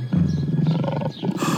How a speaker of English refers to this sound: A lion!